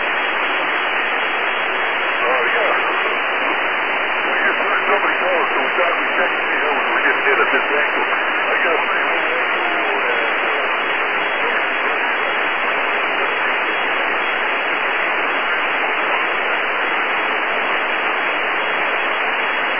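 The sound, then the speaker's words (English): Steady, muffled radio static hisses without a break for about twenty seconds, a dense band of noise from a weak amateur radio satellite signal with no clear voice coming through, as the band shifts and the satellite gets down to about 10 degrees. “QRZ, the band seems to be shifting, and I'm getting down to about 10 degrees, so that's why I'm not getting a good copy of it.”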